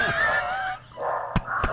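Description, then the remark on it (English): Dogs whine and yelp in high, wavering tones after a knock, then two sharp barks ring out near the end, with no talking. “Let's let the dogs calm down,”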